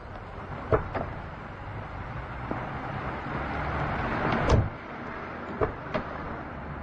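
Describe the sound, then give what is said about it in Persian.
Car doors thud shut several times over a steady outdoor rumble, with a louder slam near the middle and lighter clicks and knocks as two people get into the car outside a psychologist's office. “سلیمانی میاد و میثم سمت ماشین میره. هر دو سوار میشن.”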